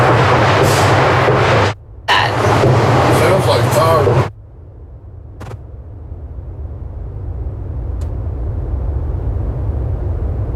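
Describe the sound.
Gunshots during a live news report: loud, chaotic bursts of noise with muffled voices, broken by a brief pause, then quieter background with two isolated sharp cracks several seconds apart.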